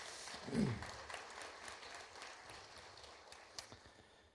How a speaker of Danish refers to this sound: Det er jer, der sidder her, der var med til at give det. Skal vi give jer alle sammen en stor klap?